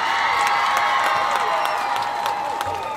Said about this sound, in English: Oh my gosh, I feel like I should have like a sound drop of the cheering crowd.